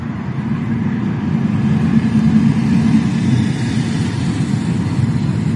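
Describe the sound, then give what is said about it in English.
Steady low rumble of cars going by outside, heard through a lowered car window with the car's engine and radio off, a continuous traffic drone with no distinct individual pass-bys, moderately loud and unbroken for the whole stretch, with no voices. “Just cars going off.”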